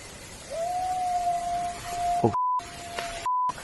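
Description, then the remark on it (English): A long, eerie, steady howl from an unknown animal, recorded by the team of researcher Eric Mintel of Eric Mintel Investigates, holds one mid-pitched note for over a second over a constant hiss, then fades into a shorter repeated tone broken by abrupt silences. “His team captured the eerie howl.”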